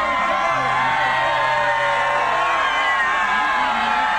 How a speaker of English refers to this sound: we just turned from Constitution onto John Ireland Boulevard, and the crowds are really big, and there are a lot of red noses out here, although we saw one young fellow burying his chest, so he was pretty warm. Listen to the crowd.